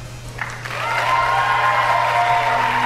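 A crowd, including Microsoft staff, at a Microsoft Xbox console reveal event breaks into applause that swells within the first second and holds steady, a dense wash of clapping with a few whoops and whistles riding above it.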